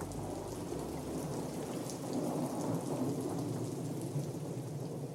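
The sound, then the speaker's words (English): A monsoon storm in a desert valley: heavy rain pours steadily in a dense, hissing wash, with a low rumble of thunder rolling underneath midway through. Loud throughout, with no voices. “The monsoon storms in the valley bring walls of dust, then sheets of rain.”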